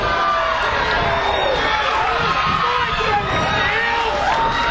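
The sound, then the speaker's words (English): A wrestling crowd cheers wildly as Walker is slammed down in a tag match, a loud, steady roar of many shouting voices with high yells and whoops rising and falling throughout, no single voice standing out. “Slams Walker down, and the crowd is going nuts here.”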